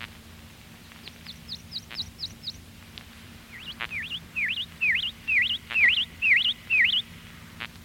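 A prothonotary warbler sings a run of bright, ringing, evenly repeated notes: first a soft series, then a louder string of emphatic chirps over a faint low hum.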